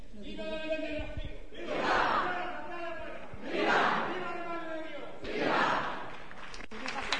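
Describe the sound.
A crowd cheers and chants during a vote count in three loud surging waves, roughly two seconds apart, with voices rising together and dropping back to a murmur between each burst.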